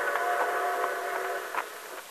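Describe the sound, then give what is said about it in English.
A steam train whistle sounds from a distance as a train approaches, heard from a wooded grove near the railroad tracks: a steady, sustained chord of tones that holds for a couple of seconds with slight wavering, heard alone without any voices. “In a wooded grove near the railroad tracks, 4 men with their faces masked by bandanas waited tensely as they heard the distant whistle of an approaching train.”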